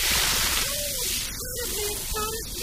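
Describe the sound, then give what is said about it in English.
Hot golden tea pouring into a cup, a steady hissing trickle with a gurgling tone that rises in pitch in short bursts as the cup fills, fairly loud. “Oh, well, let me pour you a nice golden hot tea.”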